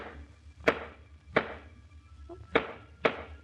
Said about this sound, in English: Squeaky place in the floor. She's fixing it. And I wish she wouldn't. I'll miss it.